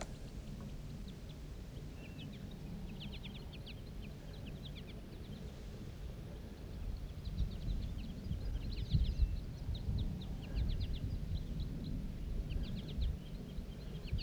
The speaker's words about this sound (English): The flock took off. There's still one bird sitting up in the tree.